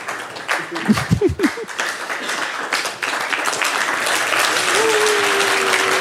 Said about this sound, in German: Und wenn die Zeit rum ist, bitte laut klatschen, weil dann ist es vorbei. Dann ist der nächste Vortragende dran. So. Wir üben das mal so einen Moment. 14, 13. Sehr schön. Das ist dann euer Applaus.